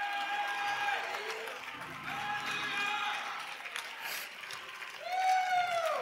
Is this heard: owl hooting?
no